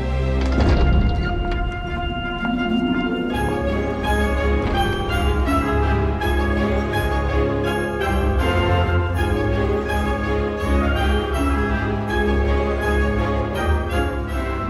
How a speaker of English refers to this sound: More triangle and more sleigh bells.